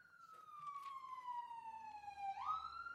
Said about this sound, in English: Pause for the ambulance to go by. sometimes it's louder than that. That was actually a mild... I wonder if they adjust their volume. Can they, like... Okay, anyway, sometimes they're louder than others.